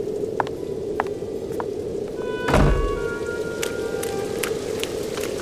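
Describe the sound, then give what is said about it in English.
Rain falls in a steady, even hiss, with scattered sharper drips and one dull thump partway through. Nobody speaks. “Take your coat. Against the rain, my dear.”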